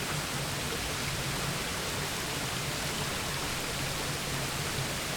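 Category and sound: nature, flowing water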